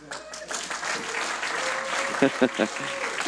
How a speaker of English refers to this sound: I can tell that was a Spanish hand clap. Puedo notar que ese era un aplauso en español.